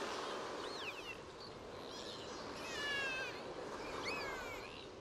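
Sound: dolphin calls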